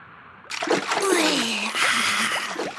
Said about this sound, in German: Als sie endlich bei den dampfenden warmen Quellen ankamen, hatte Lars Mühe, seinen kleinen Freund ins blubbernde Wasser zu bringen.